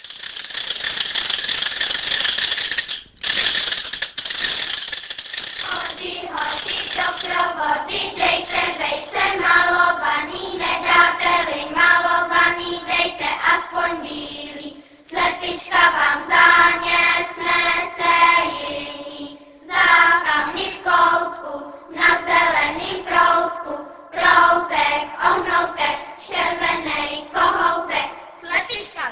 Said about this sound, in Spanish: Según la tradición, las matracas deben sonar el Jueves Santo, cuando las campanas se callan en señal de duelo.